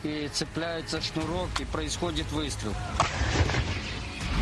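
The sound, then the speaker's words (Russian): A man speaks steadily throughout while a single heavy artillery gun at the front fires a shell partway through, after the shell and powder charge are loaded, the breech wedge is closed and the firing cord is attached: a sharp booming blast with a low rumble, loud but partly overlapped by the talking. “Вставляется снаряд, заряжается порох, закрывается клин, цепляется шнурок и происходит выстрел.”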